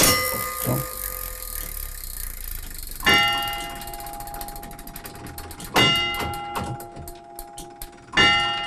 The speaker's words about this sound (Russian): И сейчас будет самое интересное, как отбиваются часы.